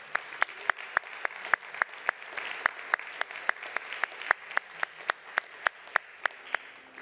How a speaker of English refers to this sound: Give the Lord a clap off of your praise.